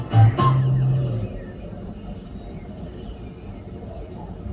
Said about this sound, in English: Here is a tractor. It has to drive along quite slowly.